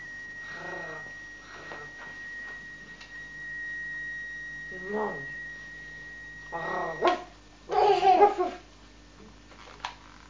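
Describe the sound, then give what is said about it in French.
A voice playfully imitates a dog barking in short, separate bursts of 'woof'-like yelps, louder and clustered toward the end, with a quiet steady hum underneath. “Et ben mon chien, mon chien il fait wouf wouf. Wouf wouf wouf.”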